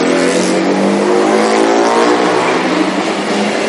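A very loud motorcycle engine roars in Japan, its droning, revving note holding steady and harsh for a few seconds with no voices over it.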